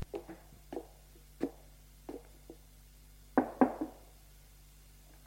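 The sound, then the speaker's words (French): A series of hard knocks on a house door, irregularly spaced with short pauses, ending in a louder double rap. Each hit rings briefly, with no one speaking. “Elle frappe à la porte”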